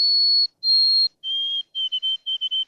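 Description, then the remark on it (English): A white-throated sparrow sings clear, pure whistles: two long, high sustained notes, then a slightly lower note broken into a quick, repeated stuttering series of short triplets, an ending some say sounds like the word 'Canada' repeated several times. No one speaks. “Experienced birders might be familiar with the sounds of the white-throated sparrow.”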